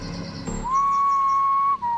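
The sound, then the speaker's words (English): One sustained whistle from the left, a steady clear pitch held for about a second, then a short lower note at the end. It is fairly loud, with faint background rustle and no voices. “A single whistle sounded to the left of me.”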